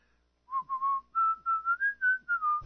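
A person whistles a short melody of about nine clear, steady notes in a bright mid-high register, gliding slightly between pitches, ending with a soft thump.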